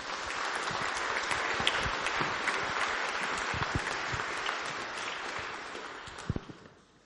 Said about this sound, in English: I think we need to give God and Jesus a big round of applause for giving us this freedom. So let's do that.